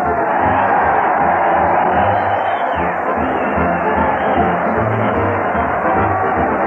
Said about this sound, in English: Listen to that crowd cheer Fred Allen as he leads his weekly parade to the old Town Hall.